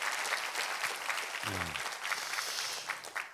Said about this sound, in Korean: 우리 우림주의자 우리 주의하시고 우리 그 청년들 우리 교회 허리와도 같은 귀한 존재들인데, 우리 한번 격려 박수 한번 부탁합니다.